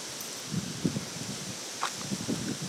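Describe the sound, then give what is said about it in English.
Wind blows steadily outdoors late in the evening in August while dry fallen leaves rustle and skitter across the ground in a few soft, scattered bursts. “And the wind is blowing. It's a little bit scary, y'all. Leaves are on the ground.”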